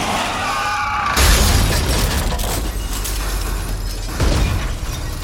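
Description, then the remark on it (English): A car crash in southeast Missouri as a pickup truck sideswipes a car and runs it off the road: a sudden heavy crunch of impact, then a sustained grinding, scraping rumble of metal and breaking glass, and a second loud jolt near the end, with no voices. “Car sideswiped us. Ran us off the road.”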